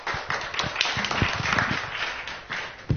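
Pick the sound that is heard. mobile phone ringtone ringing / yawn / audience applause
audience applause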